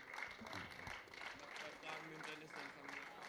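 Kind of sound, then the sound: crowd, audience applause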